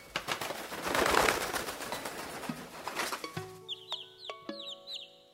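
A burst of rustling, flapping noise gives way to a bird's short, bright chirps and clucks, repeated in quick, uneven bursts, close and fairly clear, with no voices.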